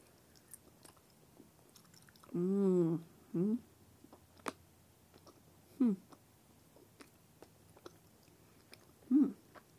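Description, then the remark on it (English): Someone chewing tiny hedgehog-shaped gummies partially dipped in yogurt, with scattered sharp crunches and clicks throughout, broken by a few short voiced murmurs or hums, without any clear words. “Kind of hard to chew.”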